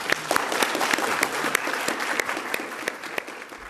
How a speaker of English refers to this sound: A big round of applause for our host, I think we'll call him today, the magic Rod Quantock.